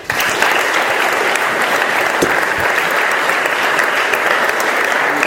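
Steady, loud applause from an audience at a university, welcoming a guest speaker: a dense wash of many hands clapping at an even level for several seconds with no voices over it.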